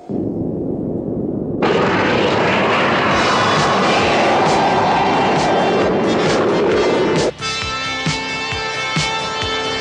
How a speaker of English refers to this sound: Start engines.